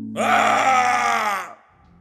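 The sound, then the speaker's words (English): A loud, anguished scream erupts through a restaurant from the back of the kitchen, behind a metal door. It rises sharply, then holds for over a second as a strained, harmonically rich cry before cutting off abruptly into near silence. “Then, an awful scream erupted through the restaurant.”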